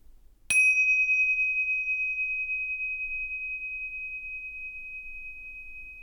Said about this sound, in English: And to begin the practice, put your attention on the sound of the bell.